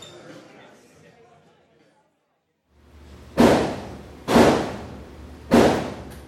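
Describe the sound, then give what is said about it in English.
Three muffled gunshots from the Gun Range, the city's oldest operating indoor shooting range, on a small side street in North Philadelphia, fired by customers in stalls behind thick glass; each a heavy, booming thud with a short decaying tail, spaced irregularly about a second apart after a faint murmur of background voices. “On a small side street in North Philadelphia, you can hear muffled gunshots.”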